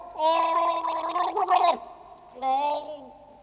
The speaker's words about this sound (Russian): Не видит царь потопления, и воды нигде нету, а видит отставной солдат, тонет, захлебывается, и ртом воздух поверху хватает.